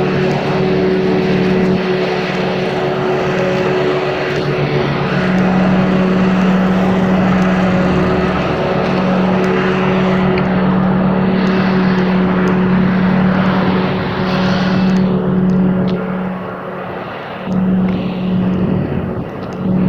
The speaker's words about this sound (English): I'm not going to try to yell over this guy in the lawnmower. Hang on a second.